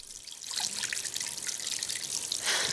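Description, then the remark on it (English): Water runs steadily from a tap into a basin, a continuous splashing hiss with small droplet patters, growing a bit stronger toward the end. “Water runs from a tap, and the two ends of a stethoscope dangle above it.”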